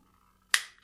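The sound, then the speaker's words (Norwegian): A single crisp click as a mount is twisted and locks into place, sharp and bright with a brief fading tail, alone against a faint background hum. “Så skal jeg vri den om til jeg hører da et klikk.”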